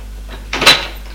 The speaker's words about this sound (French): Philippe va ouvrir une armoire à deux portes.